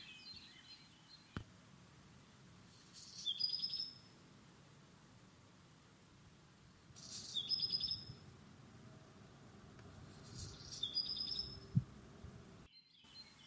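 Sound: black redstart song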